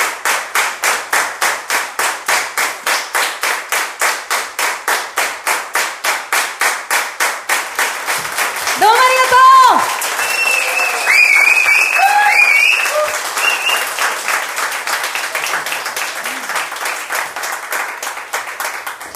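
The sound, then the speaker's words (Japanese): An audience claps loudly in a steady, unified rhythm after a live performance with guitar, then whoops and voices rise over it midway as the clapping breaks into looser, continuing applause. “拍手だったね今。”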